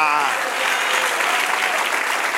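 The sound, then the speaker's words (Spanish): A church audience claps together during a sermon, giving another round of applause at the preacher's call, sustained, dense applause that stays loud and steady throughout, with a voice briefly audible at the very start. “Dale otro aplauso así.”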